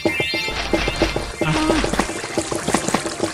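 Water pours steadily into a container for a few seconds, a bubbling rush with faint rhythmic clinks underneath and no one speaking.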